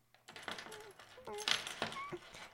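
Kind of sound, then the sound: household object, keys jingling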